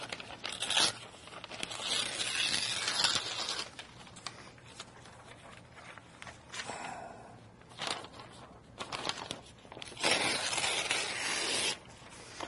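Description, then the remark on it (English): A piece of paper is ripped in several bursty tearing strokes with brief pauses between them, crisp and loud, with soft handling rustles in the gaps and no talking. “This is such a good piece of paper, it rips very easily.”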